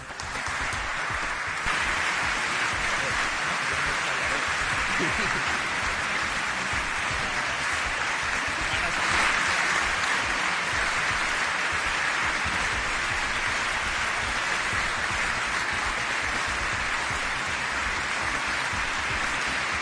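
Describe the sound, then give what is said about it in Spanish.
A long, dense ovation from a large audience of business people at a lunch at the Chamber of Commerce in Barcelona, applauding Catalan president Artur Mas after his speech: a steady wash of clapping that holds at an even loudness for about twenty seconds with no voices over it. “Ha durado unos segundos, una ovación de esas cerradas.”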